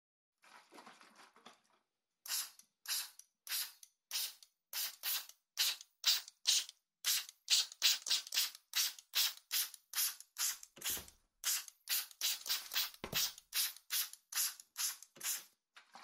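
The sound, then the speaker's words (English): Sea salt spray spritzed during an ASMR session in a long series of quick, hissy bursts, after a softer opening stretch, about two spritzes per second, bright and airy with steady rhythm and no talking. “I don't want to get any water in your eyes, as it is sea salt spray.”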